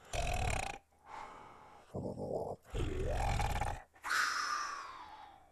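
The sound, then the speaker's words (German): A sleeping man snores into his pillow in bed: five loud, rough, rumbling snores in an uneven rhythm, some short and some drawn out, the last one fading slowly. No one speaks. “Ihr Mann schlief selig neben ihr und schnarchte unbekannte Weisen in sein Kissen.”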